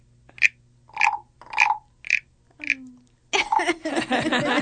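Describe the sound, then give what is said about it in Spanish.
A toad croaks five times in short, evenly spaced, fairly loud calls, then excited voices and noisy commotion take over for the last second or so. “¿A qué no te esperabas que tuviéramos un sapo? ¿Ya escucharon eso?”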